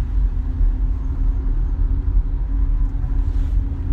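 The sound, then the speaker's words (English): A steady, loud low rumble of a car engine idling in road traffic, with a constant hum and no breaks, with no one talking. “I'm still in traffic. No one's hit me again yet.”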